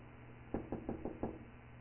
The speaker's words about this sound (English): Did y'all hear that? I just knocked on that door. I didn't get an answer. I did not get an answer. I didn't hear any response.